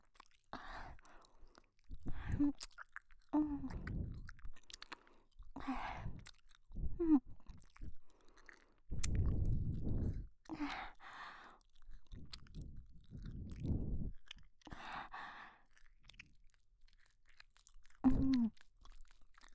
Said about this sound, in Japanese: 咀嚼するのでよくお聞きくださいね。